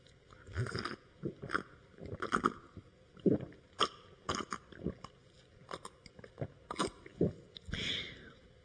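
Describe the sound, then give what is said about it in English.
Someone drinks a glass of water in a steady run of gulps and swallows, each with a wet click, repeating irregularly for several seconds with no talking. “Well, I know you can't see it, but I've got a glass here of good old Washington, D.C. tap water, made according to the federal government's current standard. And I'm going to drink it right now.”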